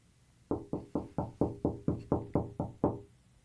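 A rapid series of about ten heavy thuds pounds against a door in a steady, insistent rhythm, loud, with no voices.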